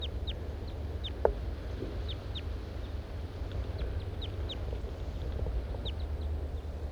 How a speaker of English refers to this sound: Now both males are here above me in the trees. Pointed at the large race male. The birds are interacting to some extent.